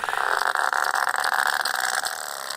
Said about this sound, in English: And that's what sperm whales sound like.